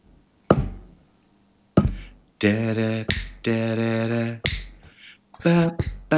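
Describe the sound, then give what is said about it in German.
Sharp finger snaps made behind the back and dull slaps on jeans, played as a rhythm in place of an instrument, ring out in an uneven rhythm, while a voice hums sustained, wordless tones between and over them. “Ich schlage auf meine Jeans und schnippe hinter meinem Rücken.”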